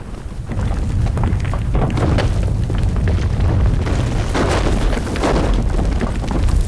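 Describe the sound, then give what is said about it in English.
A continuous, heavy rumbling roar of a collapsing ancient stone building, loud and deep throughout, with crackling bursts of debris cascading down its steps rising over the low boom, with clouds of dust. No voices. “Eventually, the thunderous roar subsides”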